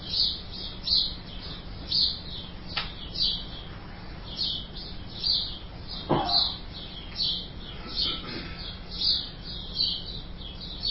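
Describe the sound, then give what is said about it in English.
Birds chirp steadily in high, bright bursts, roughly one or two calls every second, with a few sharp snaps and a low hum underneath and no voices. “You're enjoying all the action of your senses, listening to the vivid sounds of the birds.”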